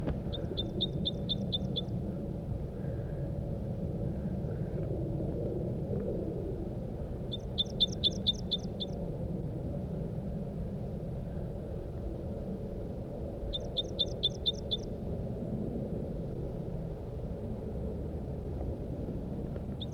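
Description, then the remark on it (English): A male bird near its nest site gives three bursts of rapid, high-pitched chipping notes, spaced several seconds apart, over a steady low rumble. No one speaks. “It's been half an hour now, and the birds are back.”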